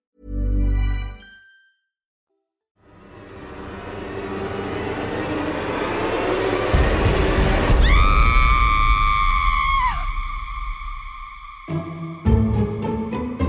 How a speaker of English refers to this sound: Screams are induced by all sorts of emotions, from terror to surprise, even laughter. And so you don't have to listen too closely to know that screaming is everywhere.